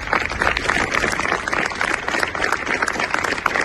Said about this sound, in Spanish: Con estos aplausos se han roto los 5 minutos de silencio que se han guardado este mediodía en Punta Umbría.